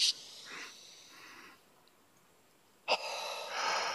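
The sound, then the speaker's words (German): Breathy airflow in a breathing exercise: two soft intakes of breath in quick succession, the first into the belly and the second into the chest, a short pause holding the breath, then a louder, longer sighing exhale through the mouth. No one speaks. “Das heißt, einmal in den Bauch, der erste Einatmen geht in den Bauch, der zweite Einatmen geht in die Brust.”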